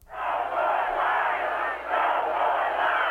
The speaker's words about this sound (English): In Portland, about half the crowd of 3,000 or so booed Bush and chanted, "No more lies."